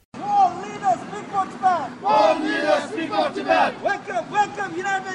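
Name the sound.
protesters chanting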